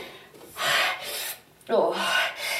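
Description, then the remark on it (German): Someone straining to force a door open: two long, harsh rasping scrapes, each lasting about a second, with a brief effortful grunt at the start of the second push. “Ich muss diese Tür irgendwie aufkriegen.”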